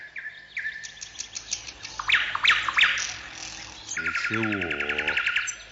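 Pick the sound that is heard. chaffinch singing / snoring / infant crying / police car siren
chaffinch singing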